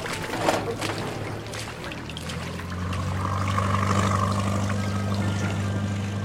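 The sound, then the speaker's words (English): A small boat's engine hums low and then swells louder and steadier as the craft gets under way, with water sloshing and splashing throughout. “Cousins, you're coxswain. Get us moving!”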